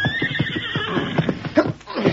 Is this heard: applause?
no